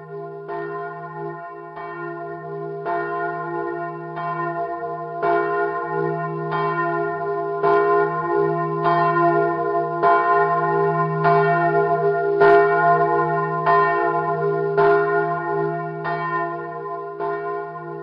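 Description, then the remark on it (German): A church bell rings steadily and loudly, its strikes repeating about every second and a half, each stroke blooming into a rich, sustained hum that overlaps the next, with no voices. “und Sie erfahren, wie eine Glocke hergestellt wird.”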